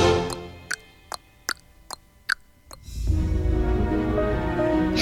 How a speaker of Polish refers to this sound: Samej wśród tych ścian tykanie zegara znieść.